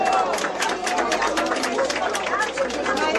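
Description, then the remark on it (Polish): A dense protest crowd outside a Polish club, protesting the club's large debt, murmurs and chatters continuously outdoors, many overlapping voices forming a steady babble with scattered louder calls, filling the whole stretch at an even level. “Właśnie znajdujemy się pod klubem polskim Westfield przy okazji protestu.”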